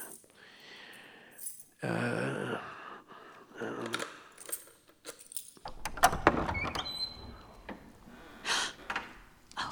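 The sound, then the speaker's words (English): Rattling and clicking of a key working in a lock, then the heavy clunk and scrape of a door swinging open, with metallic jingles and a few breathy sounds between. The door leads to a balcony. “This door goes to the Duchess's balcony, if I can find the right key.”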